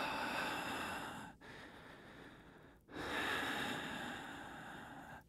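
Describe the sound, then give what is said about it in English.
A voice imitates the heavy, raspy breathing of someone walking back and forth outside an apartment window, one floor below: three long, noisy breaths separated by brief pauses, fairly loud, with no talking. “and they're right outside my window, and it was as if they were walking back and forth the perimeter of my apartment, just from one side to the next, right below us, one floor below, breathing, just...”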